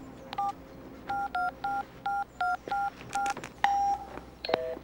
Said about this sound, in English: Fielding dials a number on his cell phone.